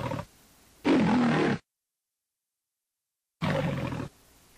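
Jackie, the lion filmed for black-and-white film openings from 1928 to 1956, lets out a loud, deep, rasping roar, falls completely silent for a couple of seconds, then roars once more with a similar gravelly burst. No one speaks.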